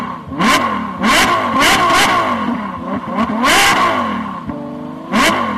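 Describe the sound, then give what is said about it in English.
Loud racing car engines rev hard in repeated bursts, pitch climbing and falling with each throttle blip, with a sustained high-revving whine near the end. No voices, just roaring motors. “Start your engines.”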